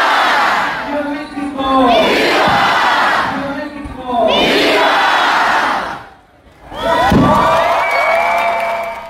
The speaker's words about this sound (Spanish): Pues cada quien en su estilo, con la vehemencia que cada quien lo quiso hacer, con la emoción, pero ahí están los gritos que les llevamos hasta usted para que los escuche, para que vea cómo estuvieron.